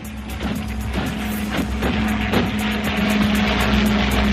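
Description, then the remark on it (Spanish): Steady, loud motorized buzzing with a sustained whine of drone propellers, a Ukrainian drone downing a Russian drone in a battle, with brief rising bursts and no speech over it. “Los drones, así sonaba, uno ucraniano tumbando a otro ruso en una batalla.”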